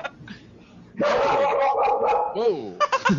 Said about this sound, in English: Okay. Dogs, they won't shut up.